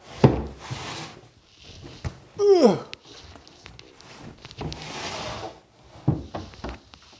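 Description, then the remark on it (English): Sliding cabinet doors rumble and scrape along their track, with a brief squeak partway through and a few soft wooden knocks as they stop. “The doors slide. If you have a closet or like a slide shower, you can just switch them.”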